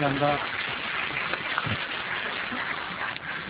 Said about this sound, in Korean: 우선 박수로 한번 좀 격려해 주시면 감사하겠습니다.